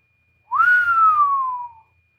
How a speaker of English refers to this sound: whistled, impressed with what she saw.